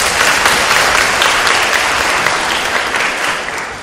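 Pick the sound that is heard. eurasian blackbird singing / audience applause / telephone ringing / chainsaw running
audience applause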